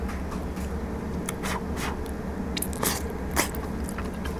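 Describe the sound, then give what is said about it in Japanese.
Someone bites into and chews stewed beef tendon from a miso-stewed beef tendon doteni topped with chopped ginger and green onion, with soft wet squishes and several sharp crunchy bursts over a steady low hum, and no talking. “じゃあもう本命の牛すじ肉からいただきます。”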